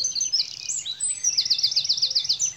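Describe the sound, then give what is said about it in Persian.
Quick, high twittering chirps from swallows, a rapid run of repeated notes in the middle, moderately loud, with no voices. “کم کم پرستوها هم رسیدند.”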